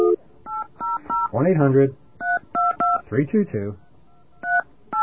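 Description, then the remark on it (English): A rapid series of touch-tone keypad beeps punches in a phone number to call a Bell Atlantic consumer information line, short evenly spaced tones in quick bursts, interrupted twice by someone speaking briefly between groups of digits. “That was the number. I called it. I called the right number.”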